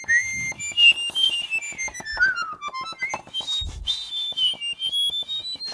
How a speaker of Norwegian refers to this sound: Men så har du den høyeste tonen som helt oppi. Den I hunderegistret. Og det som gøy med det at du kan for eksempel plystre samtidig med det der, det høres ut som to som plystrer samtidig, og det kan jo være artig det.